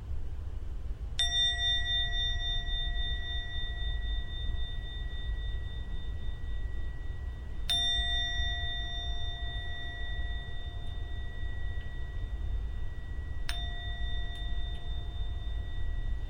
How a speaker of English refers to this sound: I'm now going to ring the gong 3 times. When the gong finishes sounding for the 3rd time, it's time to come out from your meditation.